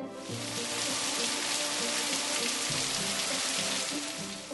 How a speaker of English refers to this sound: Whew, I got home before it started raining. Thank goodness. Yeah, the rain came really fast.